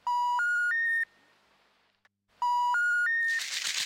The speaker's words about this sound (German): Das ist, wenn man telefoniert und kein Anschluss unter dieser Nummer ist. Also kein Anschluss unter dieser Nummer.